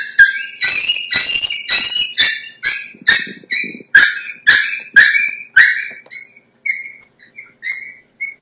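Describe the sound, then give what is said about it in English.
A puppy gives a fear-imprinting scream: shrill, piercing cries that repeat rapidly and loudly, then thin out into sparser, shorter yelps toward the end. No one speaks. “As you can hear, it's a loud, repeating cry.”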